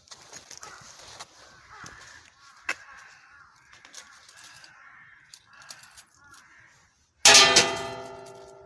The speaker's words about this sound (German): der Kami schläft zwar schon, aber ich rüttel trotzdem mal hier an der Glocke. Ich muss also an der Glocke rütteln, am besten noch ein kleines Geldstück hineinwerfen.